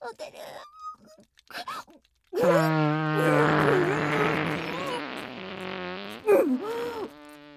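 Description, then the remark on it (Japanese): A short stretch of speech, then a loud, long fart that rumbles and sputters for about five seconds, dropping in pitch and trailing off near the end. “最低にくさいおならって、鼻先で炸裂させちゃいますの。”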